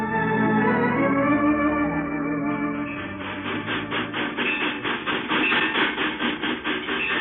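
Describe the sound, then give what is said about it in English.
A moving train rattles along the rails, heard while riding aboard, a steady wash of noise that soon breaks into a rapid, regular clickety-clack rhythm, fairly loud with no voices. “Or first thing you know, he'll be jumping off in the train.”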